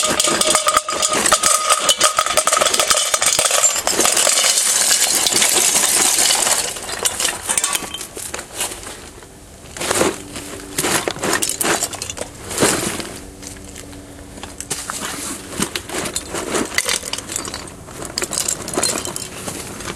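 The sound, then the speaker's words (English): A loud, dense rush of metal wheel weights clattering into a pot, then a few scattered clinks and clanks as the last pieces drop and settle. No one speaks. “Ah, that's better. More wheel weights.”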